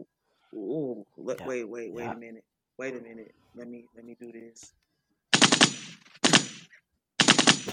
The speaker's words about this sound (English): That's a weak-ass gunshot.